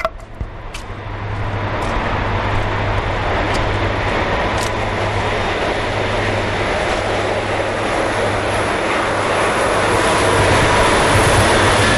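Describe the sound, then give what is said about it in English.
A passing train roars by, a loud, steady rumble with a low droning hum that swells in the first couple of seconds and stays strong throughout, with no voices. “Here comes a train at this point.”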